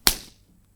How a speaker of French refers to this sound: Tenez, voici une gifle.